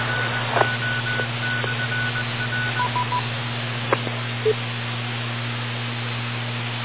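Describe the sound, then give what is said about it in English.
Radio selective calling tones sent by ground control to a particular plane to open the squelch of its radio: a faint, stuttering higher tone followed by a few short lower beeps, heard over steady radio hiss and a low electrical hum, with occasional clicks. “when the ground control needs to talk to a particular plane, they will hit certain tones which will open up the squelch of the radio in that plane.”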